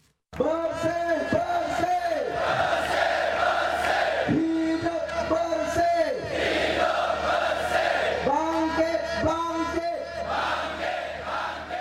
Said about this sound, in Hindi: Malaysia की राजधानी Kuala Lumpur में दो दिन तक ऐसे ही नारे गूंजते रहे। राजधानी और कुछ दूसरे शहरों में शनिवार और रविवार को हजारों लोग सड़कों पर थे। वो प्रधानमंत्री नजीब रजाक का इस्तीफा मांग रहे थे।